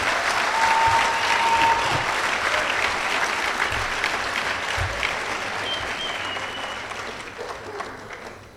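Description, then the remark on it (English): A sustained burst of audience applause at a recovery meeting for a person standing before them, dense and fairly loud throughout, with many hands clapping together before it gradually thins out near the end. “We know what it takes for you to stand here today. We applaud you.”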